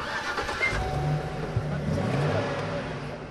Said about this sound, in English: Lonniker and Mosley fire up a rented moving truck full of sedum rolls. Their destination, the town of Missoula, 30 miles up the road.